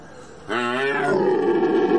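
A red deer stag bellows during the rut, one long, deep, harmonic roar that begins abruptly and holds loud for over a second before trailing into a rough, breathy growl.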